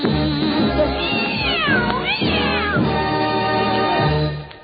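Several drawn-out cat meows, each sliding up and down in pitch, ring out loudly over a steady musical backing, with a couple of meows overlapping in the middle.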